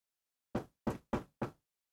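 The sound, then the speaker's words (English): Four firm, distinct knocks on a door, arriving in a quick uneven rhythm after a short silence, with no voices. “Nerd, open the door, it's me.”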